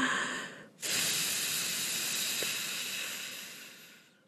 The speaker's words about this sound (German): Tief einatmen, denn sonst haben wir nicht genug Luft in der Lunge. Und dann atmen wir aus und pusten ganz viele.